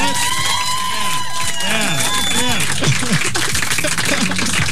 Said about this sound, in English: We got a guy queuing applause here. Now, you don't have to applause if you don't feel like it.